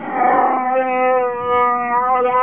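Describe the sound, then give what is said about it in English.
Chewbacca the Wookiee's jubilant hunting call, given from a starship bridge doorway: one long, loud howling roar with a rough, growly start that settles into a steady, tonal wail, heard alone without any talking. “He swung around to see Chewbacca standing in the doorway, his expression happy, uttering the jubilant hunting call.”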